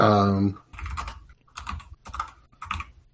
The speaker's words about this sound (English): As soon as Discord catches up to my typing.